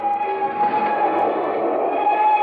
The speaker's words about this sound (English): As the train gains momentum, Richard walks through the passageway and opens the door to his compartment.